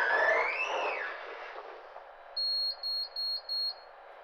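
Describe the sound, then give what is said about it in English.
A lift door slides shut with a rushing mechanical sweep that fades out, then four short, evenly spaced high-pitched beeps sound. No one speaks. “Door closed.”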